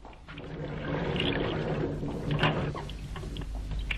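A steady rush of running tap water pours continuously, with faint splashing and shifting as a bloodied hand is washed under the tap, moderately loud, with no one speaking.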